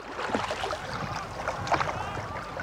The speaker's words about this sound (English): That afternoon, we went out on a canoe with a couple of rowers and recorded stereo samples of the different type of effects that would be somewhat typical of an event.